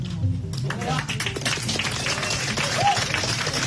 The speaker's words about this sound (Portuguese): Os deputados daqui aplaudindo.